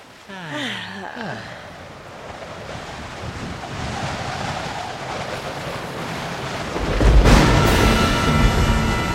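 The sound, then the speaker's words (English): Steady, gentle ocean swells wash and roll with a windy hiss, swelling into a louder surge near the end; a brief wavering vocal sound rises over the water at the start. “Just enjoy the gentle swells of this lovely, peaceful ocean.”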